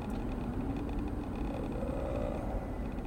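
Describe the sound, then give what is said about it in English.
Steady low rumble of road traffic with a faint engine drone that rises slightly, continuous, with no voices over it. “The traffic just picked up again, so I might lose my goddamn mind.”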